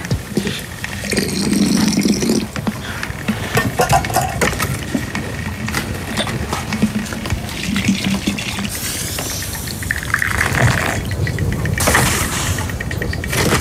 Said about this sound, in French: Elle remet de l'eau dans la cafetière qui est sur le fourneau.